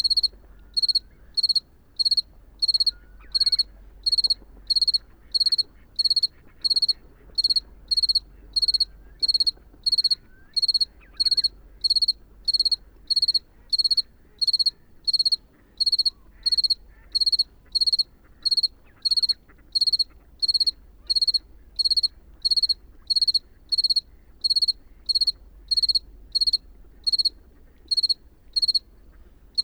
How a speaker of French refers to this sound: Et en plus, on a l'ambiance des lagunes qu'il y a sur le bord de la digue à la mer. Alors nous sommes à quelques heures simplement du 1er novembre, et ce grillon chante comme en plein été.